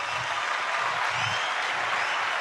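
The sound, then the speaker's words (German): Steady, dense applause from a large crowd, many hands clapping at once in a continuous wash of sound, fairly loud and sustained throughout with no voices. “Ja, das Klatschen, das muss ganz laut sein.”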